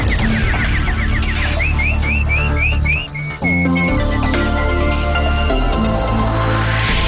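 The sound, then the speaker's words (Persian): A nightingale's song: a quick run of about a dozen bright, rising whistled chirps, fairly loud, set over a dense, steady musical background with no talking. “اینک مشروع خبرها با چهچه یا عاشقانه همکارم بلبل.”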